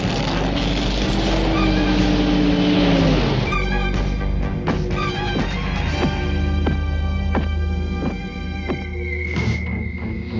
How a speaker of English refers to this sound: there's a car coming.